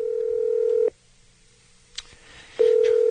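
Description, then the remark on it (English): A telephone call to a health insurance help hotline rings on the other end: a steady electronic ringback tone cuts off, leaving a pause broken only by a soft click, then the tone starts again. No one speaks. “you have an Obamacare hotline number that we can help with, right?”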